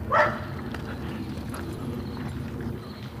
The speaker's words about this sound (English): Sounded like the dog was coming right up behind me. Artifact of the hearing aids. It makes some things sound much closer than they actually are.